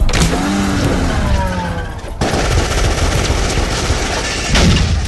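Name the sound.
gunfire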